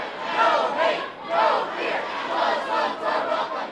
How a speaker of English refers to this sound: All weekend long, thousands of people filled Philadelphia's international airport to denounce Trump's immigration order.